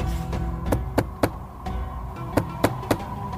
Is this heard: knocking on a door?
yes